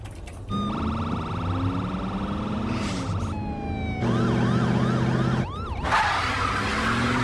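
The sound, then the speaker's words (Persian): A police patrol car siren blares as the patrol car chases a vehicle, shifting from a steady wail into rapid repeating yelps, with the vehicle's engine rumbling underneath throughout. “متصل شدم به ماشین گشتی که دنبالشونه.”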